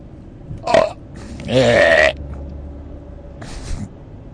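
A loud, drawn-out burp from indigestion rumbles for about half a second, bracketed by a short throaty gulp before it and a softer croak after, with no talking.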